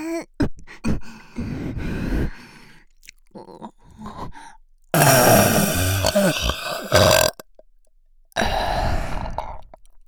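A series of loud, deliberate burps, starting with several short croaky ones, then two long, rumbling belches, separated by brief silences.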